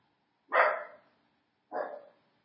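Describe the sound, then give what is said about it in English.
Two sharp barks from Shiloh, a dog being babysat, with a short pause between them, loud against an otherwise quiet background with no talking. “She barks at every little noise.”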